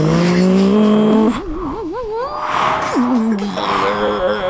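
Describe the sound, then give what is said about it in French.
A car engine roars and revs loudly, with a wavering high squeal like tires skidding as the vehicle speeds away, the engine note climbing and dropping over a few seconds. “Bon gamin, tu montes dans la voiture avec moi, dépêche-toi.”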